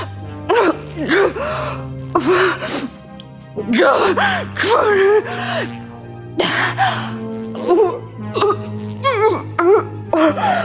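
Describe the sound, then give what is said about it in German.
A woman gasps and chokes for air as an invisible hand constricts her throat and her voice fails, in repeated, strained bursts, her breathy, wheezing cries rising and falling irregularly over a low, steady hum. “Sie rang nach Luft.”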